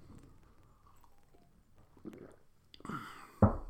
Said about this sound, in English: Have a sip of coffee.